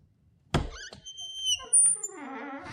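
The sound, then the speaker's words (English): A big fridge door is pulled open with a soft thunk, followed by a long, wavering high-pitched squeak that rises and falls for over a second before settling into a lower creak. “She even makes a bit of a squeaky noise there”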